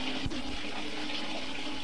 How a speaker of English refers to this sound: Okay, well, I'm going to let some more hot water in the tub, and we'll play it back.